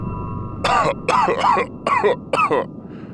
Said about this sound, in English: Why am I coughing? That is such a ridiculous personality trait. There's absolutely no reason for a spaceship to cough when coming back online. I love it!